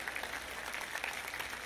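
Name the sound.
scattered audience applause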